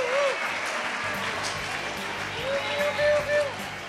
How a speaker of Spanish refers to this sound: ¡Un aplauso, por favor!